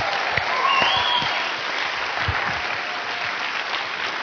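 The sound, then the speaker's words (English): An audience claps steadily for a few seconds for the singles, a dense, even wash of many hands with a faint whistle or cheer rising briefly above it. “Let's give the singles a great round of applause for them.”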